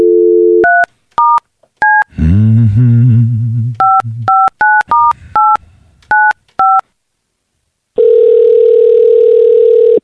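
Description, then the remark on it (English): A dial tone gives way to a quick series of touch-tone keypad beeps, interrupted briefly by a voice, then more beeps before a loud, steady ringing tone sounds on the line. “It's ringing. Usually what happens when you dial a phone number.”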